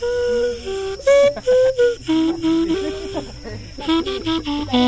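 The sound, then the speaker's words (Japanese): A carrot clarinet, a whistle made from a carrot, plays a short run of reedy, wavering tones that step between only a few low pitches (do, re and mi), with breathy gaps and slight hiss between the blown notes. “これ多分みんな吹けると、いや、もう曲っていうかね、ドとレとミとドしか出ないから。”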